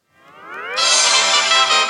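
A mobile phone ringtone: a bright electronic tone that sweeps upward and swells in volume, then locks into a loud, buzzy, sustained chord for the rest of the moment, with no talking.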